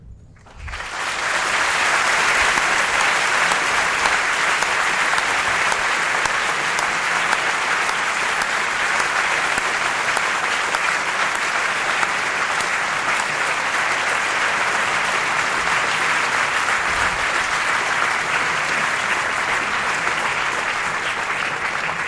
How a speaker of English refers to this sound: President, I think that applause gives me a very quick task of saying thank you, because I think the thanks of the audience are absolutely evident, particularly for your marathon of answering questions.